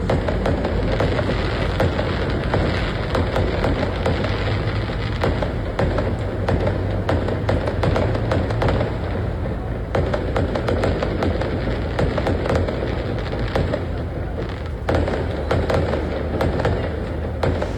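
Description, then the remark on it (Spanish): Continuous barrage of fireworks bursting across the Santa Julia neighborhood of the capital, dense overlapping pops and booms with sharp cracks standing out, loud and sustained for the whole stretch without any talking. “Digno de año nuevo, parece, porque de verdad que la cantidad de fuegos artificiales que se pueden ver en este video que nos envió el auditor es impresionante.”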